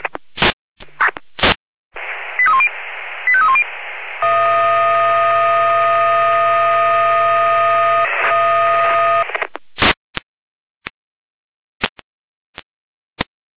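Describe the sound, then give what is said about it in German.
Fire brigade radio alerting tones over a narrow, hissy channel, alerting a fire brigade in Dornburg near Jena to a garden shed fire: a few short, quick beeps, then a steady, buzzy multi-pitched tone held for about five seconds, followed by sharp squelch clicks. “Wechsel hin mit Alarmierung.”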